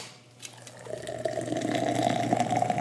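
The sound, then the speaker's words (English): A boozy iced tea made with peach-infused whiskey pours steadily into a glass, a continuous gurgling splash whose pitch rises as the glass fills, starting after a brief quiet moment and carrying on to the end. “I could smell that the minute you started pouring it into the glass.”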